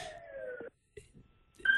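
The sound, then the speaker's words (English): An ambulance siren passing by sounds a loud, steady wailing tone that slides slightly lower in pitch, cuts off abruptly, then a brief high tone returns at the very end. “Sorry, yep, had a little ambulance going by there.”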